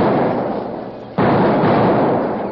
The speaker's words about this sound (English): They set blasting powder into several small holes in the stage trail, lit the fuses, and then ran back into the brush. A moment later, there were several small explosions.